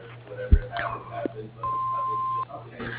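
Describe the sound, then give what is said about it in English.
A single steady electronic beep rings out for just under a second, the answering-machine tone of ALI Services Corp's phone line, over muffled phone-line background noise with faint voices before and after it. “At the tone, please leave your name and number, and someone will get back to you.”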